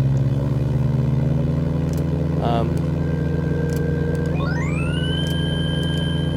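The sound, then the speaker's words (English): A synthesized model of a helicopter's petrol engine and tail rotor drones steadily and loudly, with a layered mechanical hum; about two-thirds through, a whining tone sweeps upward as the engine speed is raised, then holds at the higher pitch. “Yet if we move the engine speed, you can hear an interrelationship between those two parts.”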